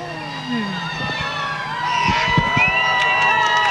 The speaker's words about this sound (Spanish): Y la gente las despide también, alzando sus manos, agitándolas y también con algunos aplausos, lo escuchábamos. Leves.